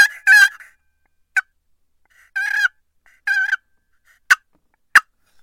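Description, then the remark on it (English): A turkey call plays soft rolling purrs, a pair of raspy yelps and several sharp single clucks, spaced out with short silences between. Moderately loud, and no voices. “Just some purrs, some clucks, just a little double yelp.”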